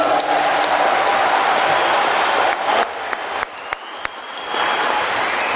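Sustained audience applause fills the room, a dense wash of many hands clapping at once, loud and steady, briefly thinning before swelling again near the end, with no one speaking.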